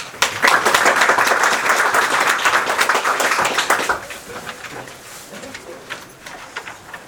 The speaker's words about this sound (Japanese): 以上が、総会で選出する役員です。異議がなければ拍手で。